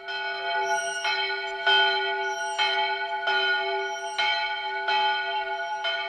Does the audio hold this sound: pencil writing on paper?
no